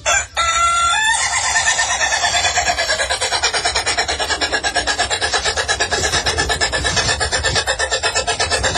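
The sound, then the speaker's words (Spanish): Fairly loud, a rooster starts a crow with a short strained tone that quickly falters into a long, hoarse, rasping rattle pulsing steadily, never finishing the call. It is a real, live recording made this morning. No one speaks. “nos ha mandado un gallo”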